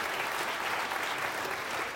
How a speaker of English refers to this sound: And people are standing up and applauding very loudly. Thank you. And I'm just going to talk over all the noise.